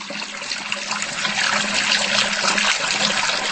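Water runs from a tap in a steady rush, its hiss swelling slightly and then holding constant for a few seconds with no voices.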